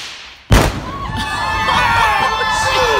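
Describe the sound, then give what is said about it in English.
A wedding dress hung on a post and laced with explosives is shot with a rifle: a single loud explosion bursts out suddenly, followed by a rumbling, crackling aftermath with crowd noise and high whistling tones lingering for a few seconds. “It's a hell of an explosion.”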